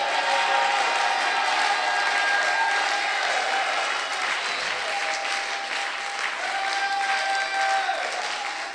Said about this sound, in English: Oh, shout amen. Can you clap together?